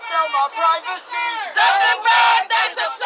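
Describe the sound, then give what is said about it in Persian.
A crowd of protesters chants and shouts together in loud, rhythmic bursts, rising and falling in unison with brief pauses between phrases, outside the Congress building, demanding reform of Facebook. “در خارج از عمارت کانگرس تقاضا برای اصلاح فیسبوک جریان داشت.”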